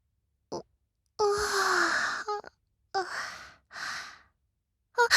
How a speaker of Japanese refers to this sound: 失礼しました。思わずあくびを。